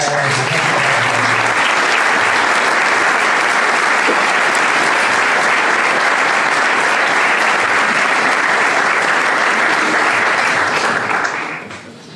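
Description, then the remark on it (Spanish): Sustained audience applause honoring members of a band, a dense, steady wash of many hands clapping at full volume for around eleven seconds before tapering off at the end. “Me gustaría que tuviéramos un aplauso.”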